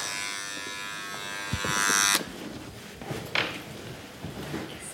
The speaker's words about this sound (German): Die Tür öffnet.